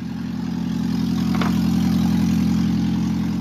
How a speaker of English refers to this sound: This is a sound you don't want to hear coming from your car. It's a 2011 Prius, missing its catalytic converter.